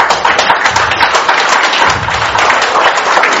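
A crowd claps steadily in a dense, crackling wash of applause that holds at an even, fairly loud level for a few seconds, with no voices heard, welcoming a guest at a charity ball of the Rétság group of the Red Cross.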